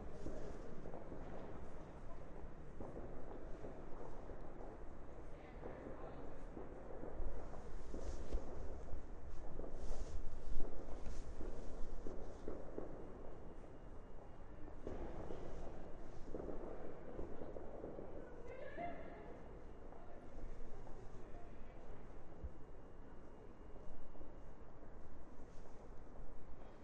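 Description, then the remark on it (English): A firework boom rolls and echoes outdoors, its rumble swelling and slowly fading, heard over constant wind buffeting the microphone. “Was a good echo, wasn't it? A real sort of stereo effect going on.”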